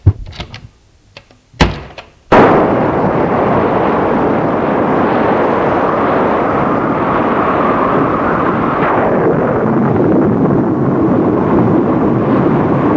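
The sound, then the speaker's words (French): A few sharp thuds, then a loud thunderstorm surges in and holds steady: a dense, rushing roar with low rumbling thunder beneath it, continuous, with no voices. “Cette apparition au milieu de l'orage fit peur à Diane.”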